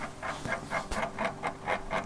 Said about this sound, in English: This oven clock is really loud and I hate it.